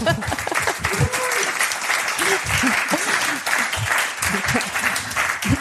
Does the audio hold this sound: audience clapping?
yes